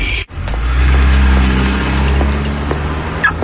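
car being locked

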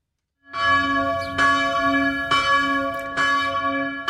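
church bells ringing

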